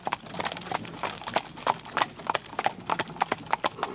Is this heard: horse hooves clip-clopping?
yes